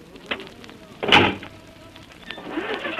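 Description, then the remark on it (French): A vehicle engine, setting off across the desert in 1942 on the way to Gao, some 1,500 km away, runs with a low, steady drone, broken by a loud mechanical whirring surge about a third of the way in and scattered clicks and rattles. No one speaks. “Le moteur ronfle déjà, en route pour Gao, à quelques 1500 km.”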